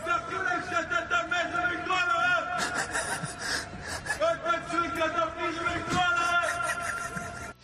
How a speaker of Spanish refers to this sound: Lo que estamos escuchando son los gritos de apoyo a Nicolás Sarkozy mientras se dirigía a ingresar en la prisión de la Santé.